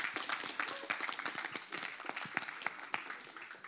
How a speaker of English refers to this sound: Give the Lord a better clap offering than that.